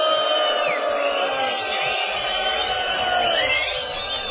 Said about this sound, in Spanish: Es esta una silbatina contra todo lo que nos molesta. Y con este abucheo general, qué lindo es así.